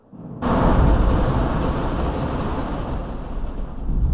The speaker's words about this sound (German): Oder die Kugeln fallen natürlich nicht im geraden Fall nach unten, sondern es sind Metalllamellen in diesem Kasten und die knallen gegen diese Lamellen und werden von Schacht zu Schachtwand geworfen. Und dadurch gibt es diesen Donner-Effekt.